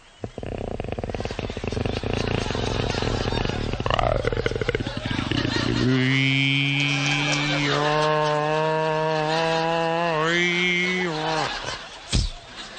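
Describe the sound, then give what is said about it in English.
A voice imitates a boat's outboard motor failing to start on a cold, chilly morning at Corpus Christi: rough sputtering rumbles, then a loud, strained droning whine that wavers and cuts off, ending in one sharp pop as it shears a pin. “The other morning was kind of cold and chilly, and that outboard motor didn't want to go. Here's the way it sounded.”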